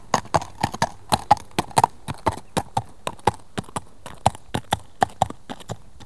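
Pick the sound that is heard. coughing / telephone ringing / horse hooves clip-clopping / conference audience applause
horse hooves clip-clopping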